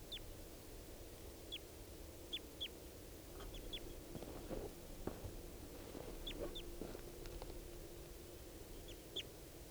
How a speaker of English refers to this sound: More wild birds coming in. And the male here, who I've got down, is mottled with yellow. Yellow and red. And he seems like a full adult. So recording these birds I've got here.